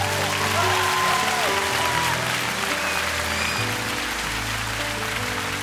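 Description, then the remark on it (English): An audience in a Methodist church claps together in dense, continuous applause that stays loud and even for the whole stretch, with sustained low musical tones running underneath. “Come on, let's clap our hands if we're going to clap our hands.”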